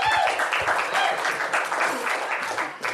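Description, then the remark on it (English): An audience breaks into steady, dense applause, many hands clapping in a continuous crackling wash that stays fairly loud throughout the three seconds. “That's 18 megabytes, and I think that that deserves another round of applause.”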